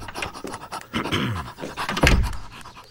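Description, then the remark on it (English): A dog pants rapidly on a hot day, quick rhythmic breaths running through the whole stretch with a few louder, throatier bursts, and no one speaking. “Okay, I knew you wouldn't give up till I went with you. Dog.”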